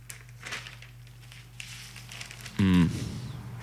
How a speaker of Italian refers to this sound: vediamo se sfogliando le pagine, forse era sulla Stampa